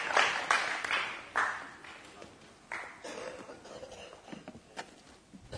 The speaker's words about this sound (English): Let's give him a round of applause for... Read it. You did really well. It's great.